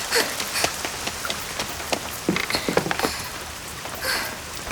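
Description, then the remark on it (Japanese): Heavy rain from a sudden cloudburst on a day forecast to be sunny pours down steadily, a dense wash of hiss with many sharp drops spattering on a hard surface throughout. “今日は晴天だって聞いてたのに、こんなゲリラ豪雨に遭うなんてついてないったらありゃしないわ。”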